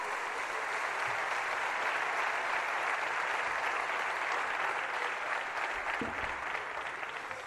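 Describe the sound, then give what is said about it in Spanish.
Steady audience applause at a Villarreal club centenary event fills the whole stretch, a dense, even wash of many hands clapping at constant loudness with no voices over it. “Aplaudiment per a ells.”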